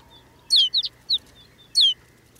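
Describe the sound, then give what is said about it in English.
A flock of snow buntings settling to the brown earth calls: a handful of short, high, slightly buzzy chirps in quick bursts, clear over a quiet background, with no one speaking. “Now it's clear that rolling white cloud isn't snow at all, but a flock of snow buntings.”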